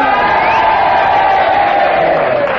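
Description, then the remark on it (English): A studio audience cheers loudly and steadily together for Kenneth, disagreeing with Henry Kelly's challenge about Kenneth's charm and good looks, a dense wash of shouts and whoops that holds at full volume for a couple of seconds with no single voice standing out. “And if you agree with Henry, which is a negative challenge, then you all boo, and if you disagree, you all cheer for Kenneth, and you all do it together now.”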